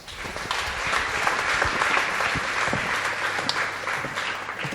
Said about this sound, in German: Applaus bitte.